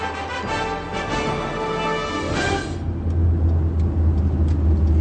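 A loud, steady drone of early propeller passenger airplane engines heard inside the cramped cabin fills the whole stretch, a thick low rumble with a harsh mechanical roar that deepens and settles toward the end. No voices.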